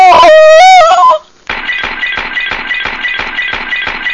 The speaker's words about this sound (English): Oh, Mother, you've smashed all your ornaments.